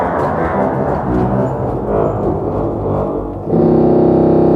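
Deep organ music rumbles with a dense, buzzing low register, then a single very low 32-foot contrabass organ pipe tone enters and holds steady and loud, rich in growling overtones, until the end.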